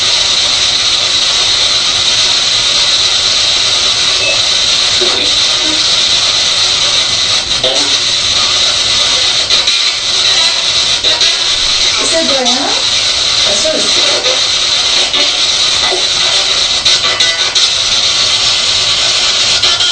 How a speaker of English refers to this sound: Did you say it had the spirit box? Remember the spirit box, yes.